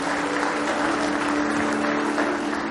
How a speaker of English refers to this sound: Give him one more hand clap in the house of God this morning.